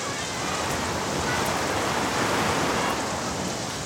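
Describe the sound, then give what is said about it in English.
Steady, dense rain falls in a park one afternoon, hissing without pause, a fairly loud wash of falling water that holds an even level throughout, with no voices. “Now it is raining.”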